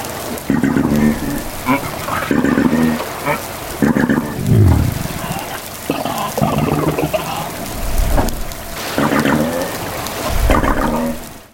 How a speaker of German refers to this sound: Es ist aber auch so, dass es nicht nur etwas für das Auge ist, sondern auch etwas für das Ohr. Vielleicht können wir das da mal schnell einspielen, wenn ein Wal ein Zwergwal singt.